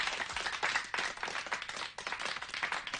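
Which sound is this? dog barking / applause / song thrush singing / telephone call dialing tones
applause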